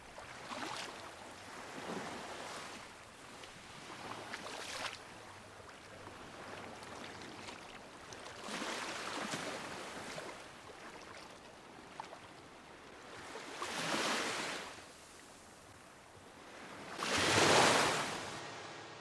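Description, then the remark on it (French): Sea waves wash onto the shore at sunset in slow, broad surges, each swell rising to a hiss and fading back, the last two the loudest, with no voices. “La mer résonne dans mes battements de cœur et le coucher du soleil rougit en retrouvant l'autre côté de l'amour.”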